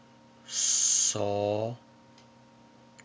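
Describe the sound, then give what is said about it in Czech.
A single owl call, a breathy hiss followed by a short, tonal hoot, clear, with quiet background afterward and no talking. “Další slovo je sova.”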